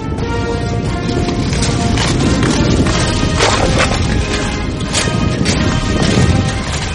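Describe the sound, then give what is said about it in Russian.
A horse gallops during a lance charge, its rider gradually lowering the lance forward, amid dense, roaring outdoor noise, its hoofbeats blurred into a steady rumble, with a few sharper thuds and knocks standing out along the way. “он когда скачет, постепенно опускает копье вперед.”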